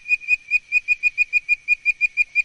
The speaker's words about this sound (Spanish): Y aquí tienen, amigos, a nuestra última invitada de hoy, la rana arborícola con voz de pájaro.